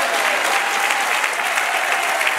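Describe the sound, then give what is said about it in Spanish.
Steady, dense applause for the Lord from an audience, many hands clapping together in a continuous bright wash of sound with no voices rising above it. “Un aplauso al Señor.”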